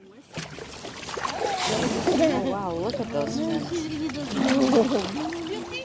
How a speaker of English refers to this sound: Every year, 13 million people go out onto the water to watch whales and dolphins. Just watch them. Those are a few of those people. That's a boat full of whale watchers in Baja. And chances are they paid good money to do this.